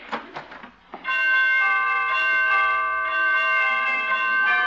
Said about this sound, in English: Well, pretty door chimes.